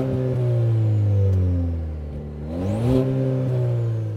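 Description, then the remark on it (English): A car engine idles with a low, steady hum, dips briefly, then revs up sharply, its pitch climbing as a faint high turbo whistle rises along with it. No one speaks. “All right, let me go do the vrooms and we'll show them the back seat.”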